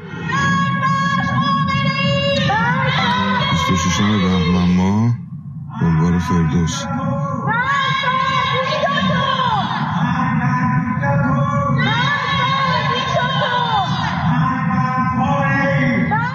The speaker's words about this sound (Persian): پس از سرکوب‌های شدید در این دو روز اعتراضات فروکش کرد، اما در روزهای اخیر شهروندان شب‌ها از پنجره خانه‌ها و پشت بام‌ها علیه رهبر جمهوری اسلامی شعار سر دادند.